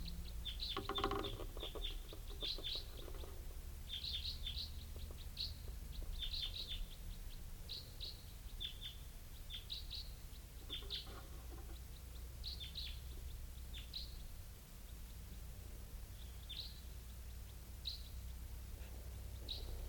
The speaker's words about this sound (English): I think the bird just flew over, not stopping.